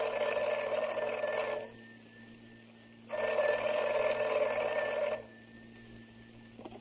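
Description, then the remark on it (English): A telephone rings twice for a long-distance call from Jack Benny to Rochester, each a long buzzing trill lasting about two seconds with a pause between, clear with no one speaking. “And here's Jack calling Rochester on the long distance phone.”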